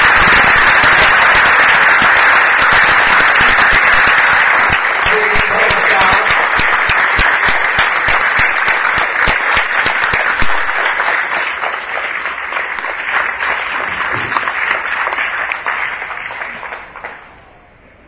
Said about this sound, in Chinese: 那今天啊，这个曹董事长这个热啊。来到了台中，这是他第一次来台中，我们大家热烈掌声欢迎曹董事长。